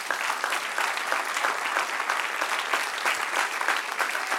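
A crowd applauds steadily, a dense wash of many hands clapping at an even level throughout, with no one speaking over it.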